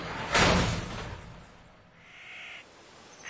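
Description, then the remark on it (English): A heavy mechanical hangar door opens with a loud whooshing burst, followed by a fainter hissing whine that fades and briefly returns at the end. No one speaks. “"Well, you're going to love this," she said, opening the door to the hangar.”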